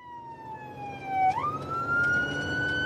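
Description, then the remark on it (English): A Louisville Metro EMS ambulance siren wails steadily as the ambulance responds to a call for an unconscious 30-year-old man who is not breathing, its pitch dipping and then sweeping back up into a sustained tone, loud, with road rumble from the vehicle underneath. “Mary Taylor is in her Louisville Metro EMS truck when a call comes in.”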